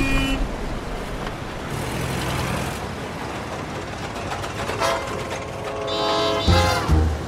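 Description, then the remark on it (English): Steady roar of city traffic in Chicago, Illinois, with buses and cars passing by, a continuous wash of engine and road noise, with a few brief tonal whines rising near the end. “The city buses with cars and well-dressed white men.”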